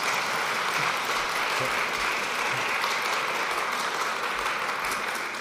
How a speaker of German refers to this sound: Fangen schon einige an zu klatschen. Ich finde, das darf auch gerne sein. Mach das mal richtig.